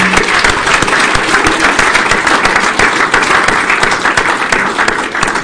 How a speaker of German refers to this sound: Ein Applaus. Oh, wow.